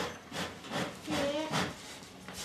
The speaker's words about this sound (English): Stephen Kern uses an old-fashioned bellows to pump up the blaze.